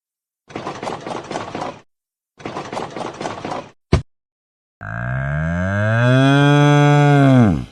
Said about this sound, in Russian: Корова.